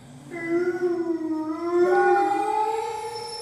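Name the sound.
dog howling mournfully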